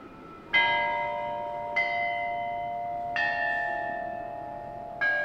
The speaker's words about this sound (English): The musicians you hear now have a unique task. They're practicing music on a series of bronze bells. Nothing too unusual there. The unusual part is that these bells have not made music for over 2,000 years.